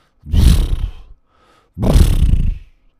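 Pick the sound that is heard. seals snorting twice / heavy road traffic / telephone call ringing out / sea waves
seals snorting twice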